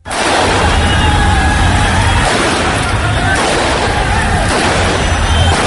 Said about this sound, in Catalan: Els talibans han disparat trets suposadament a l'aire per dispersar els manifestants